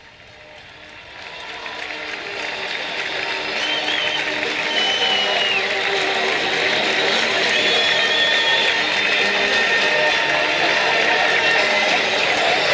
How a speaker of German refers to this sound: Auf jeden Fall, dass sie sich Mut zusprechen mit ihrem Fanlied und von einigen Zuschauern hier im ausverkauften Stadion am Sportzentrum noch unterstützt werden, das spricht für sich.